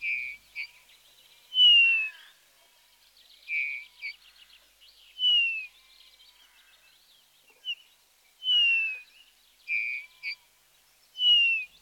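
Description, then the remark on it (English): A bullfinch sings alone in soft, piping whistles and short buzzy notes, repeating brief phrases every second or two with quiet gaps between, not loud. “But first, the sound of the bullfinch.”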